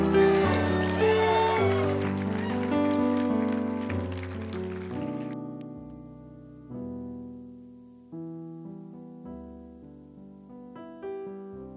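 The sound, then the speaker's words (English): A church audience, standing on their feet, claps and hollers loudly for about five seconds to give a man a big God bless you, over sustained organ-like chords, then the applause drops away, leaving the music playing on its own. “Come on, stand up on your feet and give him a big God bless you. Come on. I want to hear some hollering.”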